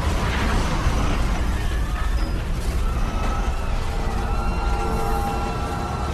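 A habitat bubble cracks open and floods: a dense, roaring rumble with scattered creaks and metallic groans, steady and loud throughout, with no voices present.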